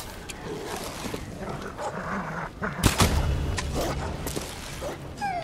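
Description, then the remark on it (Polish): Dogs snarl and bark aggressively in a continuous scuffle, with a sharp louder burst midway, all over a rough, noisy background. “Ja bym w te psy tam strzelił, słuchajcie, czekajcie.”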